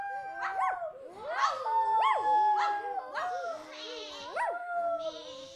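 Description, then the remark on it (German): A dog whimpers and whines in a rapid series of high, sliding yelps, interspersed with short bark-like cries, fairly loud with no talking. “Aber auch das Schaf, die Ziege und der Hund machen sich Sorgen, weil sie gesehen haben, wie der Wolf in das Haus der Henne gegangen ist.”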